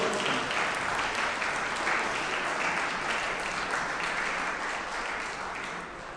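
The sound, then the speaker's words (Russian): A concert audience applauds in a dense, continuous wash of clapping that holds steady for about six seconds, then eases off slightly at the very end, with no voices heard. “Ваша аплодисменты.”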